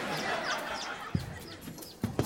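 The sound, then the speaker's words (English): Faint, high peeps of a baby chick inside a heating duct repeat over a steady rustling background, with a few dull thumps and bumps toward the end. “I hear peeping. Yeah, he is definitely in there.”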